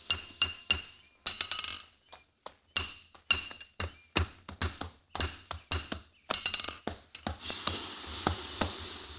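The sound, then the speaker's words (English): Blacksmith hammering metal in a blacksmith shop: a steady run of sharp, bright strikes, each ringing with a high metallic tone, some falling in quick pairs, ending with a soft broad hiss. “We had to head for the nearest blacksmith shop, so we turned north.”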